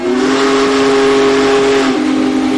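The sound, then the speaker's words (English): The whistle of the Union Pacific number 4014 steam locomotive, pulling out of Cheyenne, Wyoming, blows one long, loud, steady chord over a breathy hiss of steam, the pitch sagging slightly near the end as it fades. “We hear whistles, we hear horns in our life, but the steam locomotive whistle is really something that just moves you.”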